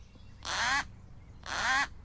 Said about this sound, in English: We mean real birds of prey, like this 11-year-old hawk.